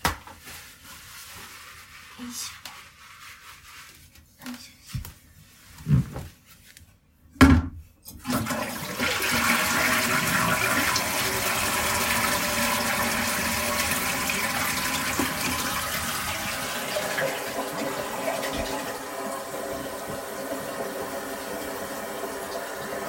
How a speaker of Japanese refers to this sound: はい、おしっこ完了しました。やっぱり想像通り結構大量におしっこじゃーっていう音が出たので、 ちょっと聞かれるの恥ずかしいんですけど、聞いてもらえたら嬉しいな。